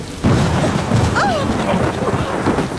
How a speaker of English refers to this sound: The lightning had hit the huge old oak tree in the garden. As the rain dampened the flames, we saw that nothing remained but a blasted stump.